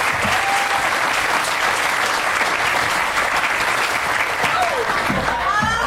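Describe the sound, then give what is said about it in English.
A crowd applauds the show's performers as they pack up, steadily for about six seconds, a loud, dense wash of clapping with a few faint whistles or whoops rising near the end. “Let's hear it for all of them as they pack up”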